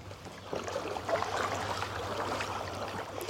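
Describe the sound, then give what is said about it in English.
A kayak slides off into the water, with steady sloshing and splashing and a few soft knocks against the hull, and no one speaking. “Well, that's us out in the water now.”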